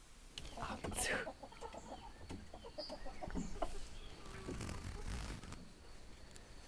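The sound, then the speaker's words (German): Chickens cluck close by in short, irregular bursts, with a few sharper squawks mixed in over a rustling background. No one speaks. “Sie hört einen Reißverschluss, Hühner, Haare, eine Metallschüssel, Teile von einem Trecker.”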